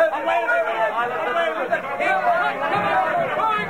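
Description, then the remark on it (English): A crowd of many voices clamors at once before Pilate, a dense, steady wall of overlapping shouts and chatter with no single voice standing out, fairly loud and continuous throughout. “Start yelling!”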